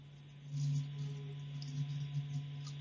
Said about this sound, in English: Now, if you think to yourself, sounds in space, how do you make sound waves in a vacuum? What they've done is they've taken radio signals and assigned to those radio signals a certain sound wave within the human hearing.